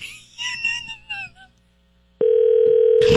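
High, warbling sounds fade out, and after a brief pause a loud, steady telephone dial tone comes on and holds without a break until the end, as someone calls a McDonald's down the street.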